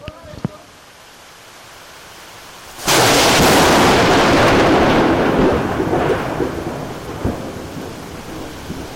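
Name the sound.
rumbling thunder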